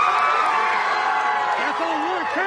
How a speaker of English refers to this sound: Outside the courtroom, a crowd erupted in cheers.